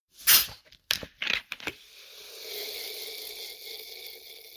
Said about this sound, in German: Oh, das mag ich gerne, genau. Gerade bei diesen Temperaturen. Na, es klingt nach einer Sprudelflasche. Das ist die Sprudelflasche, genau. Ja. Was hat es damit auf sich? Was verbinden Sie mit dem Geräusch? Ach, es ist einfach was Erfrischendes.